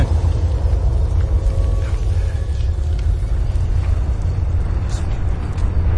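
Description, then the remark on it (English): A detonated bomb blowing up the town of Megaton: a deep, steady explosive rumble roars without pause for several seconds, heavy in the low end, with faint crackling scattered on top and no voices. “where you detonate the bomb, and there's this old guy sitting there, and he's like, oh, yes, I didn't like looking at it, so I had my man try to blow it up.”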